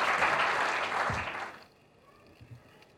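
A crowd at a poetry gathering (kavi sammelan) claps in a dense, loud burst of applause welcoming a poet to the stage. The applause fills the first half and then cuts off abruptly, leaving a faint, quiet background with a few soft stray sounds.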